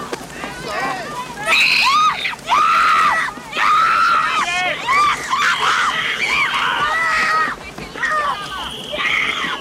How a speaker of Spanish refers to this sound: Suben a los vagones de carga. Unos soldados separan a las niñas de sus madres entre gritos y pataleos.